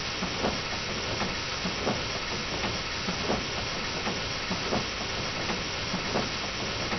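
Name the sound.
steam locomotive hissing steam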